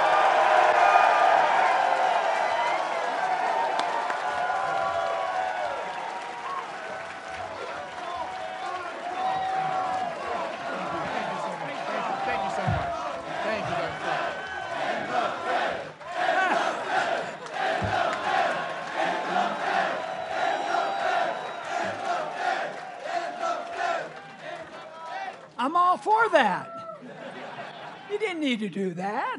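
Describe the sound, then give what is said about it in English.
A large crowd claps and cheers for Dr. Ron Paul as he is introduced, without pause for about half a minute, with whoops and shouts rising over the dense, steady applause and a brief surge of yells near the end. “Ladies and gentlemen, please clap your hands for Dr.”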